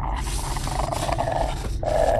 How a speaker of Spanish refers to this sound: Es el perro de mi vecino. Tranquilo. Hola, perrito. Perrito. Tranquilo, perrito. Buen niño. Amigos. Hay un Rottweiler enorme en las escaleras. Nada amistoso, ¿eh?